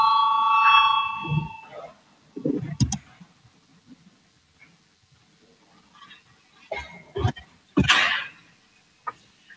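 parliament voting call bell

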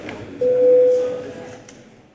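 parliament voting bell

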